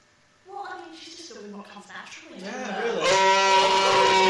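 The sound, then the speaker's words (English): A woman imitates a cow mooing: drawn-out, wavering vocal tones that slide in pitch, then swell into a louder, strained moo held to the end. “Are you a fan of her mooing?”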